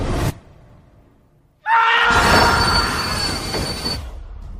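A train travelling across Europe rolls along the rails, its wheels letting out a loud, sustained metallic squeal over a deep rumbling clatter. Nobody speaks.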